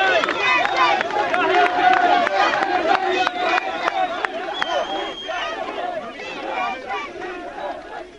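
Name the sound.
street crowd cheering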